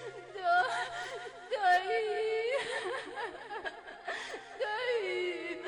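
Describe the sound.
A girl cries and whimpers close up, her voice wavering and breaking in a steady run of sobbing bursts, with a few sharper catches of breath.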